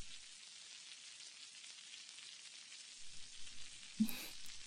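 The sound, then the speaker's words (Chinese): Steady sizzling of fish frying in a pan, a continuous crackling hiss with a faint clink near the end. “好啦，鱼可以出锅了。”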